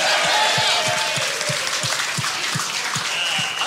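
A crowd claps steadily and loudly for several seconds at a live comedy show, giving one more round of applause for Lewis, a dense wash of hand claps with a faint underlying rhythm and no voices breaking through.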